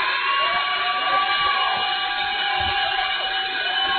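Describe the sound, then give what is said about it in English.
A large crowd at Schlitz & Giggles under the Perkins Road overpass in Baton Rouge applauds and cheers steadily for the head coach of the Division II state champion Parkview Baptist Eagles football team, a dense, loud, continuous roar with some high whistle-like tones threading through it and no one speaking. “And right now, how about you continue that round of applause for your head coach”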